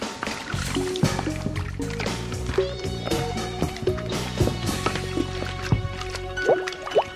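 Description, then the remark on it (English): Wet, gooey squelching of hands kneading cornstarch-and-water slime tinted with food coloring, with soft irregular squishes and drips repeating over a steady bed of melodic background music. “It's slime, all right, because it oozes.”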